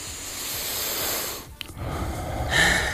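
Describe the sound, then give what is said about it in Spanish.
A single slow, deep breath, a long airy inhale, a brief pause, then a full, breathy exhale, fairly loud, with no talking. “que es el respirar. Fíjate, profundamente, que no lo hacemos.”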